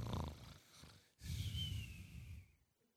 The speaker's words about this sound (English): And he was sitting right there, and he was sleeping and snoring.